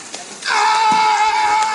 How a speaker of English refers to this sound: So first, here is the sea lion. Okay. He's like slapping the water.